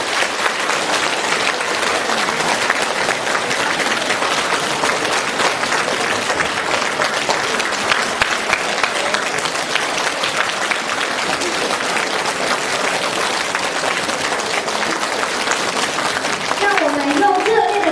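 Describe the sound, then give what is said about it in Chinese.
Sustained, dense applause from a large audience welcoming a speaker onto the stage, many hands clapping steadily at an even loudness for the whole stretch, with no break and no voice rising above it. “尊敬的…台长将为我们慈悲开示，让我们用最热烈的掌声恭请我们尊敬的…台长。”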